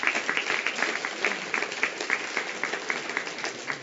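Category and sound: crowd, audience applause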